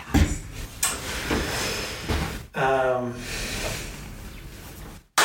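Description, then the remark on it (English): Water is dumped out, pouring in a steady splashing, hissing stream for several seconds, with a brief rising gurgle partway through, then stops abruptly. “I know, I'm like, you're gonna hear me, like, dumping my water in the background.”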